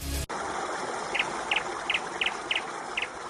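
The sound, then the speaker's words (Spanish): A small bird chirps in short, high, evenly spaced bursts, about six in a row, over a steady rushing background like running water. “Bueno, con la temperatura que hace, si el pajarico está contento con 2 grados, imagínate hoy.”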